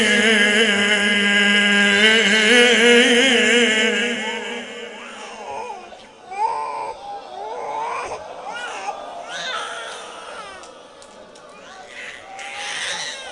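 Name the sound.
infant crying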